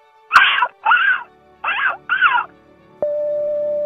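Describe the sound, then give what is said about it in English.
A caller from London, Ontario imitates a seagull with four loud, squawking cries in quick succession, each bending in pitch, followed by a click and a steady electronic tone. “calling from London, Ontario, and I think I have one good seagull sound in me.”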